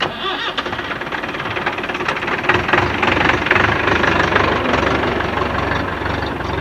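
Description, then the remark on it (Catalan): A steady, loud tractor engine rumbles continuously, a knocking diesel-like drone with rattling vibration that holds for several seconds without pause or voices, as the tractor carries people to a vineyard estate in Subirats, Penedès, during the 1997 grape harvest. “Pugem al tractor i ens traslladem a una finca del municipi de Subirats, on s'elaboren els vins i caves Albet i Noia.”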